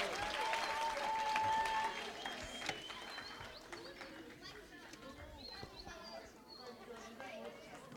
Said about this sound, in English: Let's give everyone a great round of applause. Thank you, everyone. Thanks, girls.